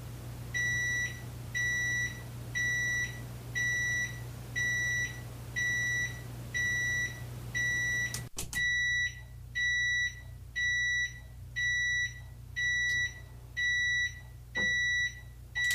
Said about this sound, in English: let's use the timer on the oven